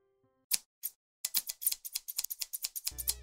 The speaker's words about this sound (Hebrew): רפונזל לקחה זוג מספריים מהמגירה וגזמה בבת אחת את כל שערה